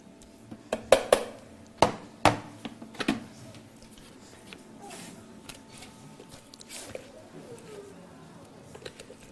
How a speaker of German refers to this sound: Und jetzt, wir werden das in dieses Tuch hineinlöffeln oder so hineintun.